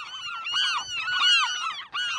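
Several western gulls on the Farallon Islands call over one another in a loud, continuous chorus of harsh, rising-and-falling squeals and yelps with a brief dip near the end.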